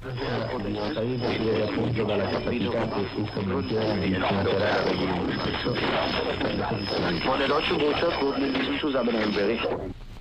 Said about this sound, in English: Example number 6 is also co-channel interference, but if you listen closely, you can distinguish three stations on top of each other.